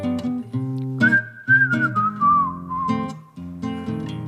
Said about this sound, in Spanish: Qué bien silbas. Silba ….